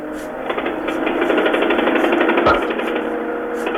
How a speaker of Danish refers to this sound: Det er ikke maskingeværsalver, de hører her. Det er lyden af et trykluftsbord, der her til formiddag bankede hul i Berlinmuren fra den østtyske side.